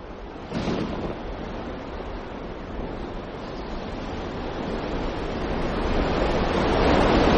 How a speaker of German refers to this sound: Der Wind wurde stärker und begann Wellen gegen das Boot zu schlagen.